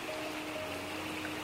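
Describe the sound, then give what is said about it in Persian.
A fast-flowing current of water rushes steadily, a continuous even hiss and churn with no pauses, moderately quiet and without any voices. “گاهی بچه ها از صداهایی مثل رعد و برق، از بادای تند، توفانای پرسرعت، جریانای تند آب و”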